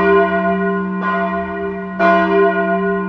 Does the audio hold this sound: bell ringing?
yes